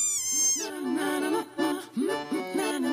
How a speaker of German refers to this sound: Den niedlichsten Schreckruf hat aber wohl der Kurzkopffrosch.